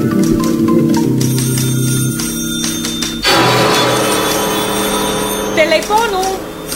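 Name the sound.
telephone ringing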